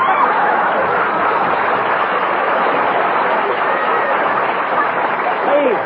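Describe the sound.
Sustained, loud applause from a sizable audience, a dense wash of clapping that holds steady for several seconds, with faint crowd voices mixed in underneath.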